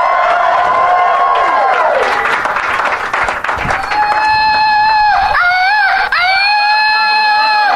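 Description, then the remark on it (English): A man in the audience whoops and wails in a loud, high voice over a noisy crowd, the yells rising and falling several times before settling into a sustained piercing cry. “Where's the guy that yelled?”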